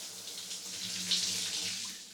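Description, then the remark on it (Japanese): A warm shower runs steadily, water splashing and hissing continuously as it rinses soap suds off a body, with a slight surge midway and no voices. “温かいシャワーで流したら心地いいでしょ。”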